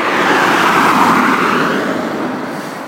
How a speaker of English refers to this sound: Car.